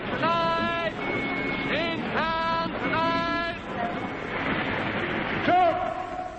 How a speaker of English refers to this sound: Once again, we stop the mighty roar of London's traffic